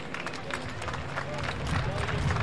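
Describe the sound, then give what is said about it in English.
A ballpark crowd of Sod Poodles fans applauds on a Sunday in a steady, scattered wash of clapping and murmur, swelling slightly toward the end. “It's a nice round of applause from the Sod Poodles faithful on this Sunday.”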